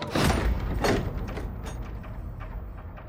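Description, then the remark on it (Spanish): Tojo opens the door to a room with a mechanical scrape, lets the Turk in, and shuts it again moments later, two fairly loud bursts followed by a fading rattle and quiet room tone. “Al llegar al cuarto, Tojo abre la puerta. Lo hace pasar al turco, luego pasa él y cierra.”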